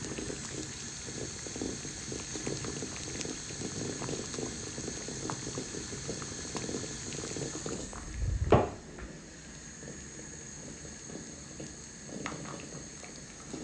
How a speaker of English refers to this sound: And here is the sound of the boiling water.